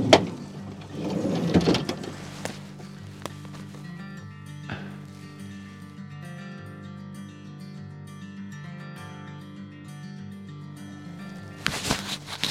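A vehicle door clunks open with a burst of handling noise and rustling as clothes are taken out, in a forest, then a steady low mechanical hum runs underneath before another short clatter near the end. No one speaks.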